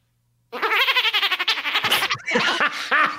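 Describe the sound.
A person imitates dolphin squeaks as the weirdest noise they can make, with a rapid, chattering run of high, warbling chirps, then a few sliding squeals, loud and without any talking.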